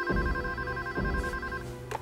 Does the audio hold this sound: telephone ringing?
yes